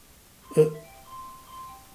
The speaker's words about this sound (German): Das ist deins, ne? Hört ich das? Nee. Das ist in meiner Jackentasche. Ach so, ja, ist ja gut. Also hier klingelt ein Telefon.